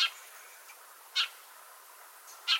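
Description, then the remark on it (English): Three sharp, bright chirps from Eurasian tree sparrows, spaced about a second apart, ring out clearly over a faint hiss with no talking. “a dozen or so Eurasian tree sparrows from Germany were released”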